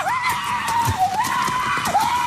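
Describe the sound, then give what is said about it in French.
A man running in the rain in his underpants, wearing only a cowboy hat, lets out a long, wavering yell, loud, his voice rising and dipping almost without pause over a steady hiss of falling rain, as Australians celebrate the rain. “Alors cet homme qu'on entend hurler, il court en slip simplement vêtu d'un chapeau de cow-boy.”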